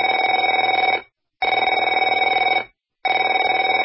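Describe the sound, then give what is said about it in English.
A telephone rings in three long, loud bursts, each about a second and a quarter with short silent gaps, a steady warbling bell tone with no voices. “Afraid to answer it?”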